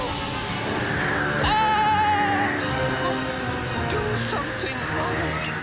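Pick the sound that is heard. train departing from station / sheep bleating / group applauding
sheep bleating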